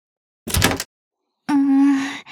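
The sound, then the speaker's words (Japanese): The handle of a locked door rattles in a brief jangling burst as it fails to turn, then a steady, droning tone follows after a short pause. No one speaks. “このドアを開ければ。”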